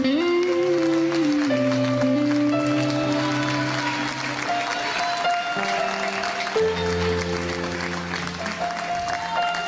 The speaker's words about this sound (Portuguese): Quem pode aplaudir a Jesus, aplauda bem forte.